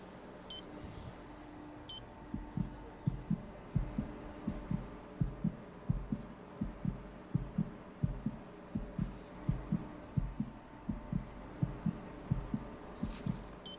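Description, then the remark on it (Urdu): A rapid fetal heartbeat of a baby boy pulses through an ultrasound monitor during a sonography, a steady run of whooshing thumps over a low electronic hum, with a couple of faint high beeps near the start and end. “لڑکا ہے، اس کے دل کی دھڑکن سننا چاہو گی؟”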